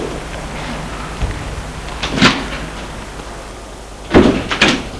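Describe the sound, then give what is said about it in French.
A heavy apartment building door off a courtyard is worked open by people: a dull thump, then a rattling clunk of the latch, and after a pause two more knocking clunks as it swings, over a steady low hiss. “Ils vont ouvrir la porte de cet immeuble.”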